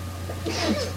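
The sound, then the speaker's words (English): A single faint sneeze from someone in a church audience during a sermon, a short breathy burst over a steady low hum, with no one speaking. “Bless you.”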